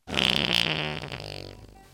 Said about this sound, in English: We'll be right back after this fart.